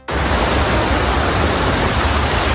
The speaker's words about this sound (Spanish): Esto que escuchas es el río Manzanares, más lleno que nunca. Está en alerta roja. Allí hay un puesto de mando con técnicos y también bomberos que vigilan permanentemente el caudal.